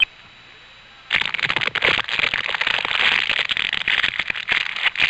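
After about a second of near silence, a dense, steady fire crackle starts abruptly, with rapid irregular pops and snaps over a bright hissing roar that continues loudly to the end.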